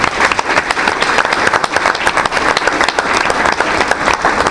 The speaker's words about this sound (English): How about another round of applause for all of our great kids?